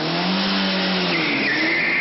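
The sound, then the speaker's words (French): A GTO sports car races past with its engine droning loudly while the tires let out a sustained high-pitched squeal, rising and shifting in pitch as it skids through a turn. “C'est une GTO.”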